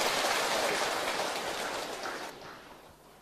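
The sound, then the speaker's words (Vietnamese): A crowd of Buddhist followers at a Dharma talk at Ngoc Chau Nhu hermitage breaks into a round of applause in praise of merit, dense and steady clapping from many hands that holds for a few seconds, then thins out and fades toward the end. “Xin một tràng pháo tay tán thán công đức.”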